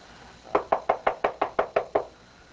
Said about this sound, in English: And the pastor goes over and knocks on the door.